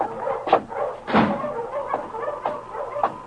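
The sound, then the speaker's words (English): A team of husky sled dogs barking in a loose series of about five sharp barks, roughly half a second apart, moderately loud, with no voices. “Why, the finest team of dogs I've ever seen.”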